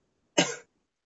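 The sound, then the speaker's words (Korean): A single sharp cough bursts out, loud and abrupt, lasting about a quarter second before cutting off into silence. No one is speaking. “왜 이렇게 기침이 좀 있어?”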